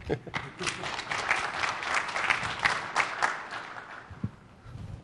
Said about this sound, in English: So that effectively showed you SMB transparent failover in action using a SQL Server running with 200,000 IOPS towards the file backend storage. Pretty sweet. Feel free to applaud.